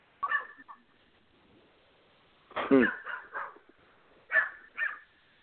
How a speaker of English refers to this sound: The dog gonna answer for us, ain't it?